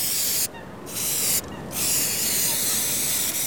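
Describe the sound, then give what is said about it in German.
Bursts of loud hissing from an aerosol spray can as two park wardens spray a park bench to remove graffiti, with two short pauses where the spraying stops before starting again. “Jetzt sind allerdings zwei Männer in grünen Jacken und mit tief sitzenden Wollmützen über die Bank gebeugt und hantieren mit einer Sprühdose.”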